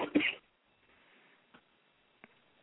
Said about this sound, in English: By the way, you just started coughing. Last time we spoke, you weren't coughing.